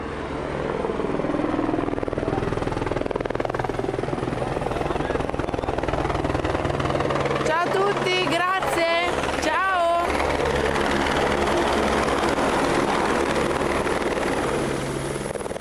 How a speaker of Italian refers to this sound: Aspettiamo l'elicottero e via verso un nuovo caso.